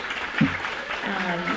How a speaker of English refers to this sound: How about another round of applause for all of our readers today?